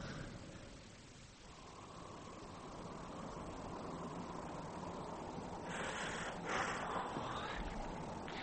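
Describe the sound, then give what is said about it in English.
A car engine rumbles steadily inside an echoey multi-storey car park, wrapped in a constant hissing drone that swells slightly louder toward the end. “Yeah, how long are we going to hang around this multi-story car park”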